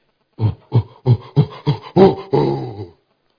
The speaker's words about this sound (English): When a lion sees an elephant, it knows it is lunch. But the lion never attacks alone. The lion always makes a sound when he sees his prey.